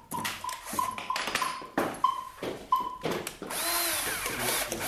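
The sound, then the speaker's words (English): A handheld power drill bores into a cucumber to make a flute for a vegetable orchestra in Vienna, whirring in several short bursts with a steady high whine, stopping and starting, then shifting into a continuous rougher grinding as the bit works through the cucumber. “A violin improvised from two leeks, a flute made by drilling into a cucumber, a sort of trumpet carved from a pumpkin.”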